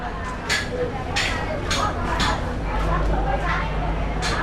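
Busy harbour ambience with a steady wash of background noise and distant crowd chatter, broken by sharp, irregular knocks and bangs like construction work nearby.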